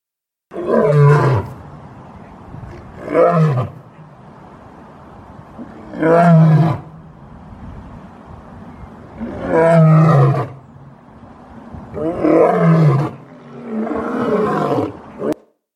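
A lion roars six times in a steady series, each deep, rough bellow rising and fading about every two seconds, loud with no voices.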